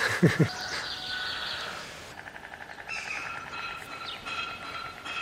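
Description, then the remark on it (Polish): A white stork, one of a nesting pair, turns its bill back and clatters: a fast, dry, wooden rattle of evenly spaced knocks, starting loudly and continuing in rhythmic bursts over steady background noise. “To ten drugi w podzięce właśnie odwraca dziób i klekocze.”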